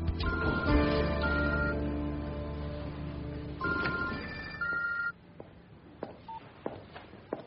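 mobile phone ringing

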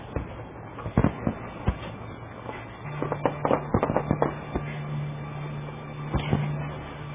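fireworks exploding

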